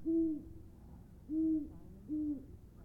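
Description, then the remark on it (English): An owl in nearby woods hoots three times at a slow, even pace, each call a low, hollow note with a slight downward slide, clear against a quiet night backdrop. “The owl in the nearby woods echoes my wonderings.”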